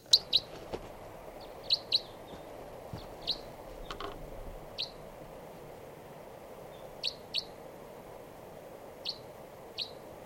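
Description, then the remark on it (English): Type 3 crossbill calls at 6:22 a.m. from a wild bird across a river, a series of short, sharp kip notes repeated at irregular intervals, sometimes in quick pairs, ringing out clearly over a quiet, steady outdoor hiss. “and I thought I heard a type 3 grosbill coming around here.”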